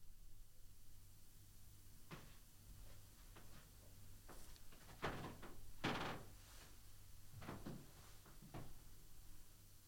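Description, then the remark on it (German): Soft creaking and muffled knocks, made by someone who is still in here, come in several irregular bursts against a quiet background, like wood or furniture shifting. Nobody speaks. “Du, wir können die nicht verarschen, die Leute, man hört dieses Knarzen, dass du hier noch drin bist.”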